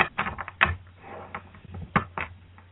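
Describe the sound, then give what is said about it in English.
A deck of playing cards being shuffled: quick papery riffles and snapping clicks in uneven bursts, with a faint low hum underneath and no talking. “Okay, you can stop shuffling. All right. Do you want me to cut these cards?”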